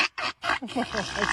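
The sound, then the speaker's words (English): A small donkey, excited by a new blue chicken toy, brays: three short, harsh, noisy bursts followed by a rising, strained tonal wail, loud and raw throughout. “There's the real classic donkey sound there.”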